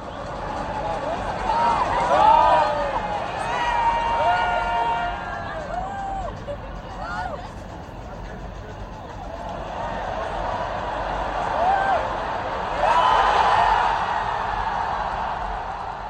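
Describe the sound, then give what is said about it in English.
A large stadium crowd, recorded from the stands, roars as Messi plays. A dense wash of cheering and shouting swells loudly early on, dips, then surges again near the end, with scattered whistles and individual yells poking through. “This is how it sounded from someone recording it in the stands.”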